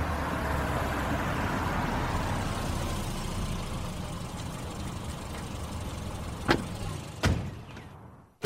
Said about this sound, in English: There's just enough room to pull the car over right before the sign.